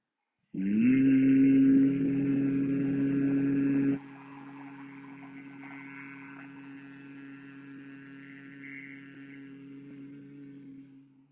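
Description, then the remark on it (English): A person hums steadily on one exhaled breath during a breathing exercise with the ears and eyes held closed by the fingers, starting louder for a few seconds then settling softer and even until it fades out, with no talking. “Make the sound even from start to finish.”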